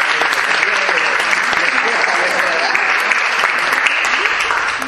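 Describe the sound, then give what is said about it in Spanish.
A crowd applauds steadily, a dense wash of many hands clapping that stays loud and unbroken throughout, with faint voices mixed into the noise. The applause is for performers who learned their pieces by heart. “Se lo han aprendido de memoria, que ha sido un trabajo de verdad, para aplaudir, porque ha costado muchísimo.”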